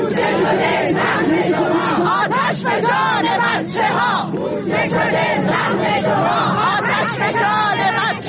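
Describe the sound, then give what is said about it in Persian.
A dense crowd of retired teachers at a protest rally in Isfahan, Iran, shouts slogans in unison over a deadly school fire in Zahedan, voices loud and continuous with rhythmic rises and falls, layered over steady background babble. “در گردهمایی اعتراضی فرهنگیان بازنشسته در اصفهان، بنابر تصاویر منتشر شده در سایت‌ها و شبکه‌های اجتماعی، تظاهرکنندگان در اعتراض به فاجعه مرگ 4 کودک در آتش‌سوزی اخیر مدرسه‌ای در زاهدان فریاد می‌زدند: بودجه شده سهم شما آتش به جان بچه‌ها.”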